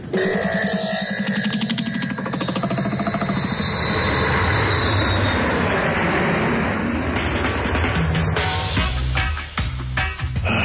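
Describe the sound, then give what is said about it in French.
Loud, steady roar of the engines of an A3-2X airplane being warmed up before a flight to Peru, a dense mechanical drone that holds for about ten seconds with a brief dip near the end, no voices. “Tex, tu fais chauffer l'avion, s'il te plaît?”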